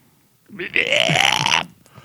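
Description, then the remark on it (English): A man's voice imitates puking with a single loud, strained retching gag lasting about a second, a rough, gurgling burst that rises and holds before cutting off. “I did not make the correct puking sound.”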